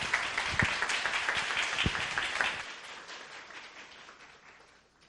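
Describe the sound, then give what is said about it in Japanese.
A church audience applauds to welcome a special hymn performance, with dense, steady clapping that holds for a few seconds, then thins and fades out softly toward the end. “拍手を持ってお迎えしましょう。”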